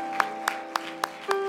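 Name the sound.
audience clapping hands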